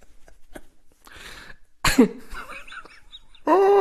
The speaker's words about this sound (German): Husten.